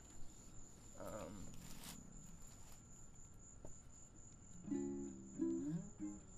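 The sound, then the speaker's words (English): Crickets chirp in a continuous, high-pitched trill that runs through the whole clip, with a few brief low tonal sounds and murmurs breaking in near the end. “Obviously. Crickets.”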